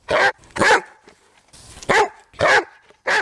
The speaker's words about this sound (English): Here's the quintessential Golden Retriever bark.